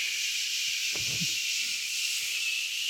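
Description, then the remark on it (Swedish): A sleep machine, a small machine standing on the floor that runs all night, gives a steady white-noise hiss, airy and unbroken like a hairdryer, holding an even level throughout with a brief low rumble partway through. “Sömmaskinen är en liten maskin som låter som en hårtork.”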